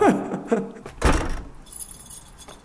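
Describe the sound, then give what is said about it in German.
A ring of keys jangles as the last door of a castle is locked, with a solid metallic clunk of the lock turning midway, then light clinking keys trailing off; a brief voice sounds at the start. “So, jetzt sind alle Türen zu.”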